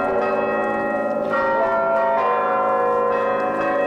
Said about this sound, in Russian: Колокольным звоном встречает кафедральный собор правящего архиерея.